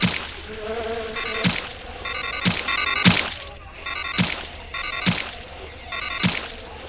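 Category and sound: insect, mosquito swarm buzzing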